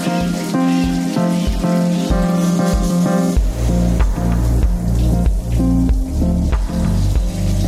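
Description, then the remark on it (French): Cold shower water runs in a steady, fairly loud hiss of spray, with tonal music-like hums beneath it that deepen halfway through. No one speaks. “Ah, une petite douche pour me réveiller, là, ça va faire du bien.”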